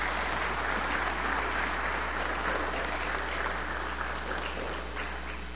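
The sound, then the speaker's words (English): An audience at GPC church applauds steadily for several seconds for one of the church's seniors, a dense wash of many hands clapping at an even loudness with no voices standing out. “Clap, clap, clap.”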